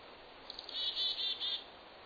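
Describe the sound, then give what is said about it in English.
Birdsong at first light in July: a short burst of many birds' high, thin chirps and trilling notes over a soft, steady background hiss, moderately faint and fading after about a second. “In July, you might have heard this dawn song, many birds singing at first light.”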